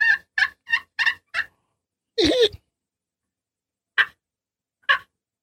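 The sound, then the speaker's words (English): A handheld turkey call imitates young and old hen yelps, played from the middle and the edge of the call: five quick, clear yelps, then a longer raspy note, followed by two spaced single yelps. Fairly loud, with no talking. “You go to the middle of the call, it gives you a different sound. Go to the edge again, a young hen and an old hen.”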